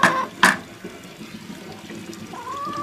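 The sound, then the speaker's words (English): Two quick splashes as an unidentified bug from a garden is thrown into water, followed by low, steady sloshing and gurgling, with a faint high-pitched chirp rising near the end. “What the hell is that? I don't know, but it's going in the water.”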